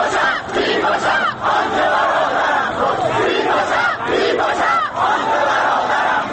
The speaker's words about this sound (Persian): صدای گلوله که می آید جمعیت معترض راه می گیرد برای فرار. چند نفری به سمت همراهان تیر خورده‌شان می روند. خون کف سیمان جاری می شود و مردم وحشت زده فریاد می کشند.